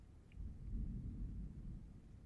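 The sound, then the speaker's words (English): A deep, continuous rumble of thunder rolls through, low and heavy, swelling slightly midway and holding steady to the end with no voices present. “Let me give you the amplified version of that scripture as the thunder starts around me.”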